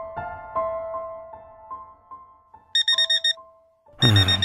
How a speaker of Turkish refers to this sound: Alarm çalıyor.